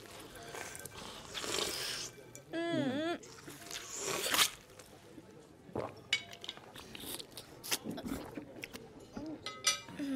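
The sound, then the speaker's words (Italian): Eating sounds of people eating raw oysters: wet slurps, soft chewing and the light clink of shells or cutlery, scattered irregularly while people chatter and murmur in the background. “Ostriche. Buon appetito.”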